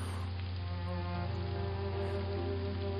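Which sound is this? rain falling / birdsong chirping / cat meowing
rain falling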